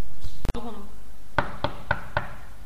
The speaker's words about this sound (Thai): เสียงนายพานเคาะประตูและเข้ามา